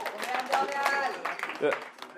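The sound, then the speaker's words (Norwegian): A short burst of crowd applause, dense scattered clapping at a steady moderate level, with several voices talking and calling out over it. “Yes, det er, ja, applaus, applaus.”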